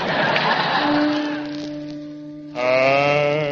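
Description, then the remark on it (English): Cowboy Dan's horse gives a deep, drawn-out whinny, loud. It holds a low, steady tone, then breaks into a brighter, wavering neigh near the end. “His horse, of course, is a baritone, too.”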